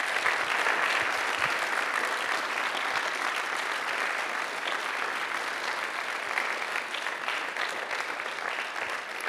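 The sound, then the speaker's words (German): A sustained round of audience applause at a young researchers' award ceremony, given for the winners of a special prize: many hands clapping steadily at an even, fairly loud level for the whole stretch with no voices standing out. “Also schönen Dank und großer Beifall.”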